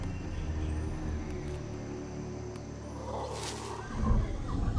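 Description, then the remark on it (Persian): Deep, rumbling roars from howler monkeys high in the treetops carry on steadily, a loud, continuous chorus that swells near the end, with no one talking. “و در بالای درخت بسیار شلوغ است. میمون‌های جیغ‌کش حدود 60 برابر بزرگتر از میمون‌های کوتوله هستند.”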